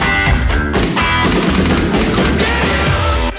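A loud pop rock song plays with no talking, driven by pounding, rapid-fire drum hits over dense, distorted instruments that stay full and steady throughout.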